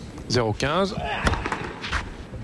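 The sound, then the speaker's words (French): Alexander Zverev hits a powerful 208 km/h tennis serve down the centre into the net in the third set: a loud, strained grunt, then a sharp racket crack and a duller thud soon after, fairly loud against a quiet arena murmur. “Et là, on le voit, il a décidé de mettre la gomme au service. On l'a entendu, hein. 208 km/h au centre, mais dans le filet.”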